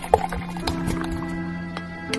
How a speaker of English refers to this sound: In another glass, I want you to pour the rest of that beer.